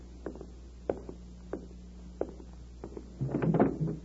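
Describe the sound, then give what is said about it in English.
A door is opened: a series of soft, evenly spaced thuds like footsteps leads into a louder, longer rattling scrape near the end. No one speaks. “Let me answer it by opening the door.”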